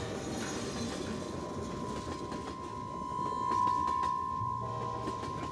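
A train rumbles steadily along the tracks with a sustained metallic squeal of wheels rising in the middle and faint clacking beneath the dense low roar.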